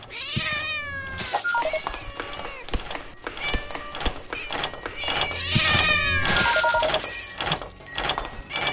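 cat meowing

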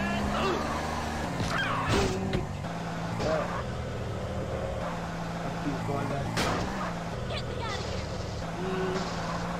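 car engine revving

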